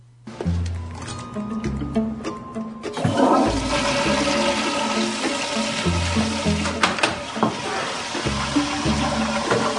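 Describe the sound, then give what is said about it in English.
A toilet flushes with a sudden loud rush of water that swells after a few seconds of low tones, then keeps churning and gurgling steadily to the end. “House flushes and maneuvers himself out of the door so that Medina can see Hal, who is still hiding on the toilet, making himself as small as he can.”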